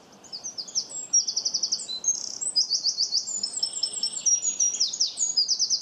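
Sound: wren singing loudly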